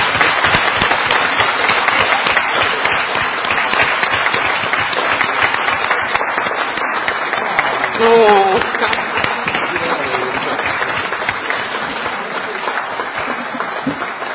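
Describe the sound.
Steady applause fills a city council chamber, welcoming a new councillor to her seat, many hands clapping in a dense, even roar that holds for about fourteen seconds, with a brief voice rising over it partway through.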